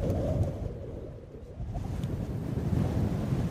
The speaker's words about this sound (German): Der Wind bläst den Sand von den Dünen. Bei Bedonti, ganz im Süden Madagaskars, sieht man das türkisblaue Meer und den beigefarbenen Sand.